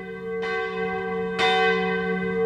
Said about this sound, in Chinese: 赞一个，这钟声太棒了。